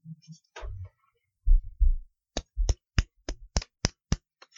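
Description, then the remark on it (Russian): Several low, muffled thumps, then a run of about nine sharp hand claps in a steady, even rhythm, each a crisp, bright smack. No one speaks. “Хлопки.”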